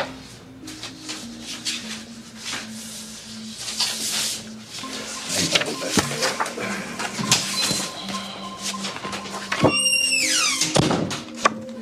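A person gets up and walks out: a few scattered footsteps and shuffling movements, then the door thumps shut behind him, with a sharp creaking squeal near the end, all over a steady low droning tone.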